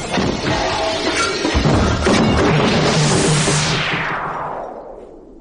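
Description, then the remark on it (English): A loud, violent crash as a wooden door bursts apart, splintering with a sharp impact and crackling debris that sweeps and fades over several seconds. No one speaks. “What's happened to the door? Split to matchwood.”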